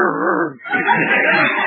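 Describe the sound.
A man's voice imitates a dog, starting with a wavering, whiny whimper and breaking into rougher, louder yelping bark-like sounds after a brief pause.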